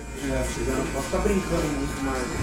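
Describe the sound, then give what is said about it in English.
Electric hair clippers buzz steadily at a barbershop outside Boston, Massachusetts, a low continuous drone running under the murmur of people talking in the background. “Electric clippers are buzzing at this barbershop outside Boston, where an undocumented immigrant works full-time.”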